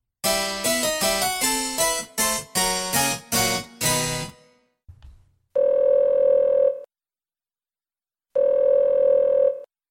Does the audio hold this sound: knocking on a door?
no